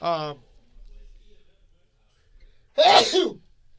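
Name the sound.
sneeze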